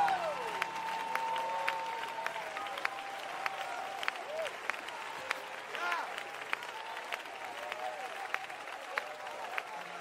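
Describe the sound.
An audience claps steadily, sharp hand claps ringing out in a loose, repeated rhythm for the whole stretch, with voices talking beneath the clapping.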